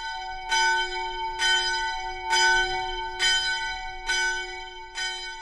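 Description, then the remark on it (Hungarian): A church bell tolls a death knell, six evenly spaced strokes, each ringing out with a bright, rich tone whose hum lingers between strikes, rung at noon on Friday in memory of Father Olivier. No voices are heard. “A püspök arra kérte egyházmegyéje plébániáit, hogy pénteken délben húzzák meg a lélekharangot Olivier atya emlékére.”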